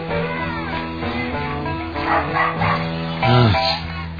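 A pet dog barks and yelps over a steady tonal background, with one louder, stretched bark near the end; no one speaks.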